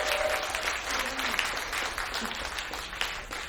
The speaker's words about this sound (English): Give a round of applause for them.